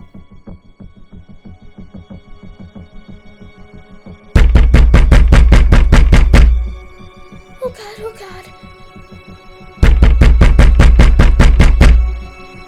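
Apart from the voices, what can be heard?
knocking on a door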